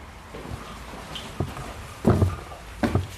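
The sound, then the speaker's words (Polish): Four heavy footsteps land at uneven intervals, each a dull thud with a scuffing edge, growing louder toward the end, as someone climbs the stairs inside Domek Kata, a theatre building. No one speaks. “Wchodzę do domku Kata, przede mną schody. No to idę na górę.”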